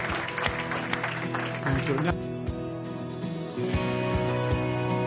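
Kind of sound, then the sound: crowd, audience clapping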